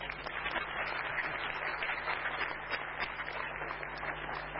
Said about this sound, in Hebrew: יש פה איזה מחיאות כפיים סוערות.